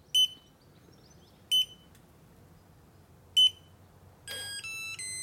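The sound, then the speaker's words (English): A digital lock on a customer's door, opened with a one-time passcode by a Waitrose grocery delivery worker, beeps: three short, bright electronic chirps spaced a second or two apart, then a quick multi-tone chime confirming access, clear with no talking. “And there we go, that beep tells us that we've got access.”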